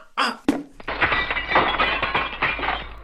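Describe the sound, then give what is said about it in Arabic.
A sharp impact thump as a kicked ball hits a window inside a house, followed by a loud crash of the window glass shattering, then a sustained bright tinkling of shards cascading and settling for a couple of seconds, fairly loud. “وفي إحدى الضربات التي قام بها قاسم للكرة أصابت الكرة زجاج الشباك وكسرته”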